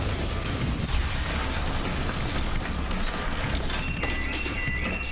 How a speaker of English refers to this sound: I never in a million years feared those buildings coming down. Never. I did fear secondary explosion or possibly a second plane. 30th floor. We hear another explosion.